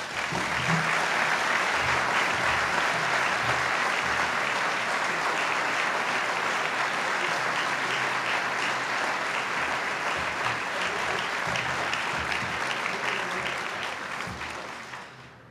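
A crowd claps in a steady, dense round of applause honoring a man recognized for giving back to the community, holding at a strong, even level for about fifteen seconds before easing off at the end, with no talking.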